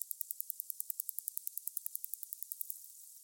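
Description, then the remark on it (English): A steady train of sharp, high-pitched echolocation clicks from an ice-dwelling whale, used to orient itself, find its way through sea ice and find prey, about ten per second, evenly spaced over a faint hiss, fading out near the end. “So they're just clicking all the time for echolocation, to orient themselves, because they see with the sound as humans do with sonar.”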